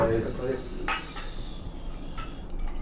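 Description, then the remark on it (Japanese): Dishes and cutlery clatter in the busy Takebo yakiniku restaurant in Hanoi, with a few sharp clinks standing out over a steady murmur of background chatter and room noise. “ハノイの焼肉屋竹坊からお送りします。”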